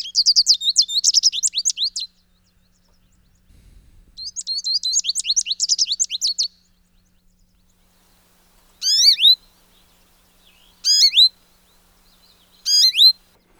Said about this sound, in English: All right, moving along, American goldfinch, a beautiful yellow bird. Let's give a listen to this.